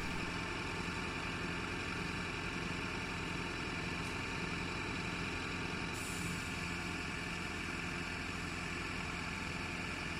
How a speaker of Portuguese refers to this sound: Escuta-se o som de um caminhão de recolha do lixo.